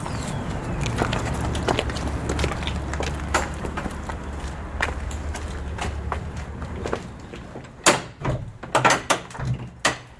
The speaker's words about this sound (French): Elle n'a pas changé, c'est la porte de toujours. C'est une porte en bois à l'ancienne avec un bruit formidable.